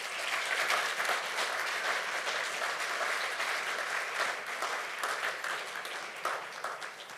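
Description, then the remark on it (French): An audience at a church gathering applauds a man warmly and steadily as something is handed to him, a dense wash of clapping that holds for about seven seconds before easing slightly toward the end, with no one speaking over it. “Alors, pendant que je le remets, on peut l'applaudir chaleureusement.”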